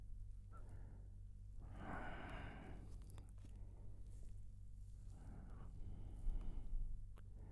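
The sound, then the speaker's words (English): Slow, heavy breathing, with a few long, airy exhales separated by pauses, over a low steady hum and no talking. “I can hear you breathing hard.”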